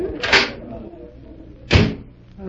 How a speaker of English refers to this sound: Here, this door opens